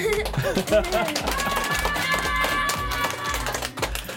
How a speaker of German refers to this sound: ich habe Besuch von einer gesamten Schulklasse. Erstmal wollen wir den Ton checken. Wie laut seid ihr? Willkommen im Domradio. Jetzt möchte ich aber mal euren Radau hören. Schreien, klatschen, toben.